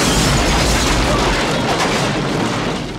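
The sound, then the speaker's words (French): A loud, roaring explosion fills the whole clip, a dense wall of rumbling blast noise with heavy low-end that barely lets up for about three seconds, as a film production blows up an entire neighborhood during the Atlanta airport expansion. “La Canon profite du projet d'extension de l'aéroport d'Atlanta pour obtenir l'autorisation de faire exploser un quartier entier.”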